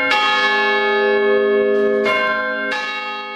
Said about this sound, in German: damit der Hammer Sekunde 0 auf die Glocke trifft